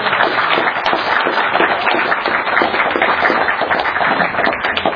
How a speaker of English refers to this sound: I think we all ought to give a round of applause for handing up on this.